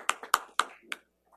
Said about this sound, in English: No, we were applauding you.